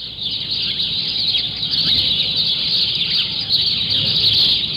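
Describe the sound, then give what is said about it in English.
A dense chorus of city birds arriving at 7 o'clock, heard five stories up through the windows of Tony Schwartz's home, chirping steadily, many overlapping high tweets forming a bright continuous wash over faint low outdoor background noise, with no voices. “At 7 o'clock, the birds arrive.”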